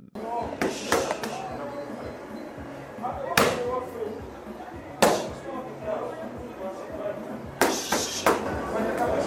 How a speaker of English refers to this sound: Apalot punches the boxing bag at HBT Gym in Kampala with a pair of lioness.